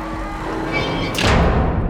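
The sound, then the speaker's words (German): Heavy fortress gates slam shut with one loud, deep boom that rises out of a steady low rumble and leaves a heavy, resonant rumble hanging afterward. “Die schweren Tore der Festung schlossen sich wie von Geisterhand.”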